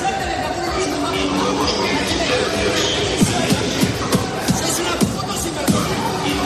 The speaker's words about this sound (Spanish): Que llevan, como escuchas, a algunos de esos usuarios a golpear los trenes y a increpar a los maquinistas.